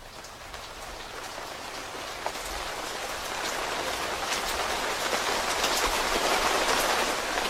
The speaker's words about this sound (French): Quant à moi, je pense que je vais me détendre un petit peu et écouter la pluie qui coule après toute cette neige qui aura tombé cette semaine.